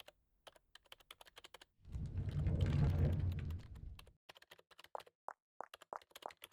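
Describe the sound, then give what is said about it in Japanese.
Rapid, uneven key clicks from a computer keyboard, fairly quiet, as someone works late preparing documents for a business client, interrupted midway by a louder low rumbling burst lasting a couple of seconds before the typing resumes. “それに、キーボードの音。まだ誰か残ってるのかしら？”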